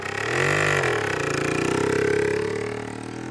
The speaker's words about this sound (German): Von oben kann er die anderen Jungs auf ihren Mopeds durch die Gegend knattern hören.